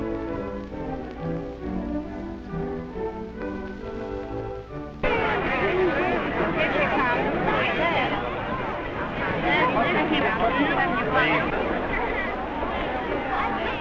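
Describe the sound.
A radio sound effect of a big crowd in the studio: a dense crowd hubbub of many overlapping voices cuts in abruptly after about five seconds of a steadier, tonal murmur, then stays loud and busy to the end.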